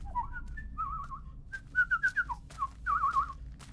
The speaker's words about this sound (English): whistles happily as he strolls through an area of dead trees and torn tree stumps, where little appears to grow.